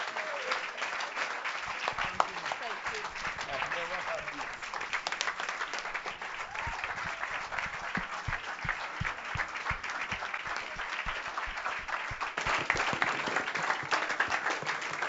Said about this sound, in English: Praise the name of God. Can we just give a round of applause again for the grace of God